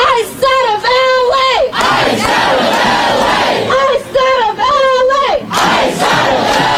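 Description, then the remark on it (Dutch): A large protest crowd in Los Angeles chants in unison against President Trump's immigration policy, loud and rhythmic, repeating a rising-and-falling phrase with a roar of shouting voices filling the gaps between the chants. “In LA wordt al dagen geprotesteerd tegen het immigratiebeleid van president Trump.”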